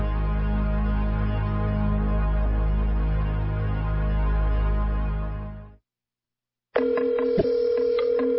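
A steady low telephone tone hums for several seconds, fades out into a brief silence, then a burst of electronic phone tones and dialing beeps follows. No one speaks.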